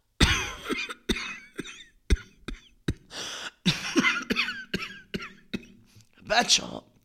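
A mother coughs repeatedly one morning at home in a village, in a series of sharp bursts, some followed by breathy wheezing sounds, with short pauses between the coughs.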